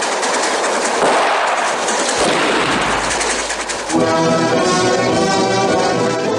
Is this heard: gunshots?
yes